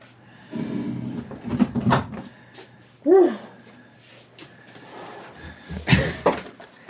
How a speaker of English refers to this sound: Yeah, don't forget to close the door.